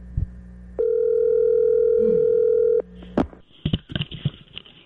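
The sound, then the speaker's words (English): A steady telephone dial tone hums for about two seconds after a short click, then cuts off as rapid clicks and busy shuffling noises follow, as a morning call is placed to former All-Star baseball pitcher Nolan Ryan. “We thought we would give Nolan a call this morning and talk to him because he pitched in a lot of them.”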